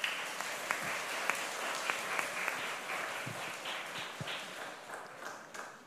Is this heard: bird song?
no